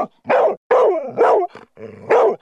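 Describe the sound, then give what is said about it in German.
A dog barks loudly and repeatedly in an office on the Kollege Hund day, when people bring their dogs to work, about five sharp barks in quick succession with short gaps, some with a growly, yappy edge. No one speaks. “Wenn die Chefin oder der Chef es erlauben, sollten alle Erwachsenen ihren Vierbeiner mit zur Arbeit bringen.”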